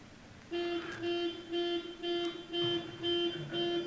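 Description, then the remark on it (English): A car alarm blares a steady, rapid series of buzzy, harmonic honks at one pitch, about two per second, loud and continuous with no voices over it. “Even if somebody's trying to steal your car.”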